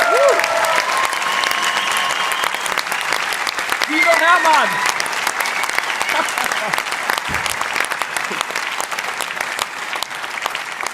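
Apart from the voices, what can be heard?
big round of applause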